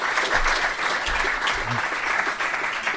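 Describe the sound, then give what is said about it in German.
A crowd applauds steadily throughout during a quiz at the Lettretage, a dense, continuous wash of many hands clapping at an even loudness, with a few brief low thumps underneath. “Applaus. Bravo, bitte nochmal.”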